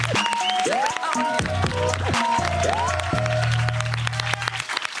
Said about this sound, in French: Bon, je te propose de l'applaudir. Allez, là, normalement, c'est parti. Juste là.